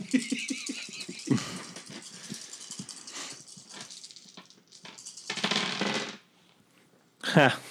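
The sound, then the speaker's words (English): Dice rattle and clatter across a hard surface in a couple of bursts, with one sustained tumbling roll in the middle, as an opposed check is rolled during a game, while people talk before and after. “And he's going to roll an opposed check to try and hurt you.”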